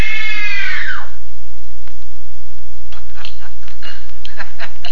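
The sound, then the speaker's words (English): A woman lets out a shrill, terrified scream on direction during a screen test, loud and high-pitched, lasting about a second and trailing downward before it cuts off, leaving faint clicks and rustling. “Now scream. Oh. Scream. Oh. Scream for your life.”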